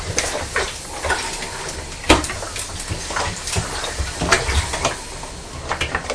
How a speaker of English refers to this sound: It's starting to rain